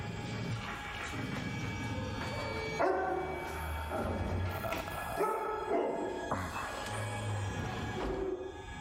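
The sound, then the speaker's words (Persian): A dog barks repeatedly and loudly, its sharp barks coming in bursts over roughly nine seconds against a busy, steady background. “این سگ شماست؟”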